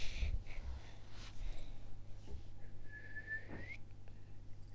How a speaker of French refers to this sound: Ah, tu sais siffler. Attends. Vas-y, siffle. Ah oui. C'est les grands qui savent siffler.